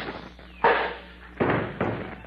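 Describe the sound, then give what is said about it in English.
A thrown cuspidor, aimed at a fleeing man, strikes someone's head with a loud bang, followed by two more heavy thuds in quick succession, each impact ringing briefly before fading. “I'll throw this cuspidor at him.”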